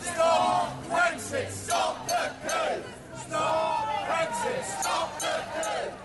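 A Brexit-weary crowd of protesters in Parliament Square, London, chants "Stop Brexit!" in unison, loud repeated shouted phrases in a steady rhythmic cadence, voices blending into a rough, rising-and-falling roar with background babble.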